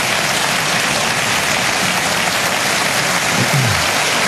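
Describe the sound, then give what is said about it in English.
Steady audience applause from a television show audience fills the whole stretch, a dense, even wash of many hands clapping at once, loud and sustained with no voices breaking through. “Applause.”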